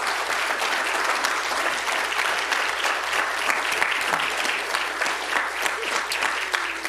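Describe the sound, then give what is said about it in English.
Sustained audience applause for officers with 356 years of combined service, a dense steady clatter of many hands clapping at an even loudness for several seconds with no talking over it. “And I believe they deserve another round of applause, please.”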